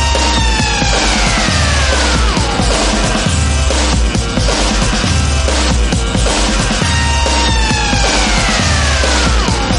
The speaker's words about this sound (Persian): و این صداهای آژیر مانند